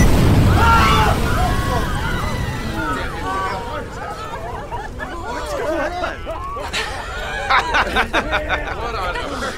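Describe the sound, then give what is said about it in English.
A loud, deep blast of a bomb hidden in a snowbank on a street and set off by a radio device booms at the start, its low rumble fading over the next few seconds as a crowd of excited voices chatters and calls out. “Dominic Sonny Celestino, a B-team mobster, placed a bomb in a snowbank he knew Sammy would walk by.”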